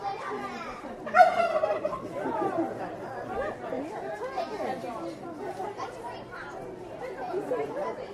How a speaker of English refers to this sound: Speak turkey. Oh, he's got stage fright now. Yeah. Go on, Turkey, speak.